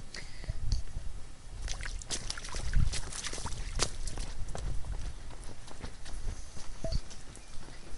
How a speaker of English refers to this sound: I'm going to tread through this water, and then once safely under the awning, I will shut down the recording, so.